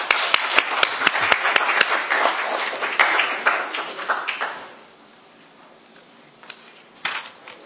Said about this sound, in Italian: Pertanto invito la consigliera collega nuova a sedersi nei banchi. Prego. Un benvenuto e un applauso per la nuova consigliera.